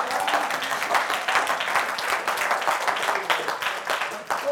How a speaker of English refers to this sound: Come on and give God a clap.